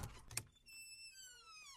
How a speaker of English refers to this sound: Just sneak out the back door.